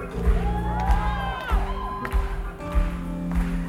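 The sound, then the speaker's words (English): A large crowd sings and shouts the word "compassion" together over steady, thumping music, many voices rising and falling in loud, continuous waves for the whole stretch. “Before we get out, we want to hear everybody singing and shouting.”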